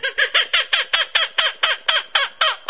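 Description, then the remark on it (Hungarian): A percussion instrument with its striking surface held muffled imitates the laughing call of the Australian kookaburra: a rapid, even run of about a dozen bright, squawking notes, loud, with no voices. “Ez a tipikus ausztrál kokabura madárnak a hangja.”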